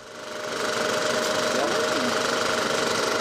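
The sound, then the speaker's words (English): A film projector at a drive-in theater runs with a steady, dense mechanical whir and a faint sustained tone as reels of film spin, projecting a movie onto a giant outdoor screen. It fades in over the first half second, then holds constant throughout. “Reels of film spin continuously as the movie is projected onto the giant outdoor screen and sound is broadcast to the patrons' car radios.”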